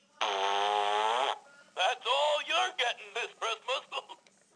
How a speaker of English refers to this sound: Yes, he's a farting Santa, and he was my dad's.